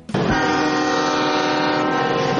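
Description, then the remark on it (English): The horn of the special train carrying George H.W. Bush through Texas toward the Bush Library and Museum at Texas A&M University blares in one long, steady, loud blast that begins abruptly and holds for about two seconds, with faint rumble of the train beneath and no voices. “People have been gathering by the thousands in small Texas towns to get a glimpse of the train.”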